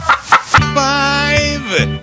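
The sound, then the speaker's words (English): A few quick clucks from a chicken, followed by a long, drawn-out squawking cackle, loud, with no voices. “On the sixth day of Christmas, my true love gave to me 6 chickens laying.”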